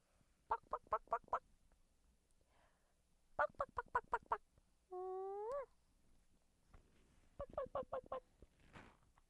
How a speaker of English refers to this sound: You like the chicken, huh? You like the chicken? That's a chicken.